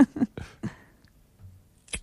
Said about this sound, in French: C'est un briquet, ça. Ouais, je pense aussi. J'allais dire pareil. J'ai des ciseaux, moi. Ah ouais, moi, c'est plus un briquet aussi. Eh ben, pas du tout. C'est-à-dire C'est-à-dire que c'est une pomme qui est cassée.